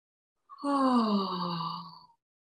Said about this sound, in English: So you get a stretch on the inside of your throat and you're releasing tension. It's really lovely. So it's this yawn.